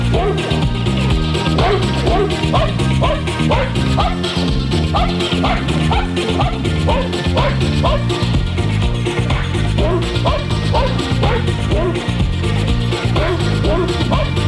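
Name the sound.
dog barking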